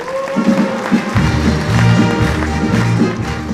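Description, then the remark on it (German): A crowd applauds steadily in a dense, continuous wash of clapping to welcome Jupp Menth, the Kölsche Schutzmann, while low, sustained musical tones come in about a second along and carry on underneath. “Empfangen Sie bitte mit großem Applaus Jupp Ment, der Kölsche Schutzmann.”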